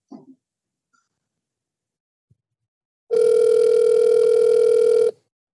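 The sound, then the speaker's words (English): A phone's ringing tone sounds once as a loud, steady electronic buzz lasting about two seconds, with nothing else around it except a few faint clicks beforehand. “Let me call her.”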